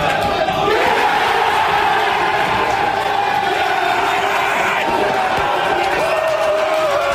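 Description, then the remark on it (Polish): A large crowd of football fans in the fan zone on Grzybowska Street in Warsaw cheers and shouts continuously, a loud, dense roar of many voices with whoops rising above it, sustained without pause after the Polish national team's win in Cardiff. “Tam kibice na zwycięstwo polskiej reprezentacji zareagowali tak.”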